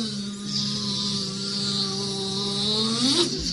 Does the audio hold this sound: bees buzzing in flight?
yes